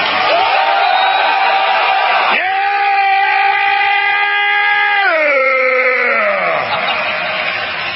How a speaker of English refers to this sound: Yeah! Let them hear your war growl!